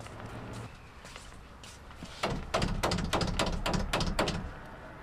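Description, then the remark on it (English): A campaign volunteer gathering support for Prop 30 on Carlin Avenue knocks on a house door with a run of sharp, solid raps, about eight or nine evenly spaced over a couple of seconds. The knocks are clear after a quiet moment of outdoor background. “About how many houses do you knock on before you get somebody to answer?”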